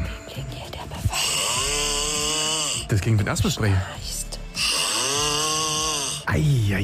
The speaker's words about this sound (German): Ja, vielleicht ist das die größte Schnarchnase Brandenburgs